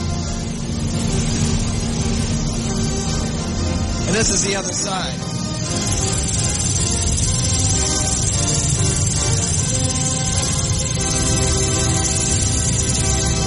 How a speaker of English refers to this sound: You've heard the machines that provide the wind to make this operate.